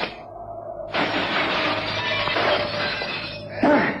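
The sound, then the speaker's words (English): A glass window shatters with a sudden, loud crash as someone jumps through it, followed by a few seconds of shards raining and tinkling down before a final clattering impact. “I'm going to simply jump through the glass.”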